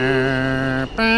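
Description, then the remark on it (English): A New York subway departure chime rings out loud on the platform as the train is about to leave the station: a sustained, buzzy electronic tone, a brief break, then a higher tone starting. No voices are heard. “And you hear these three pure high tones.”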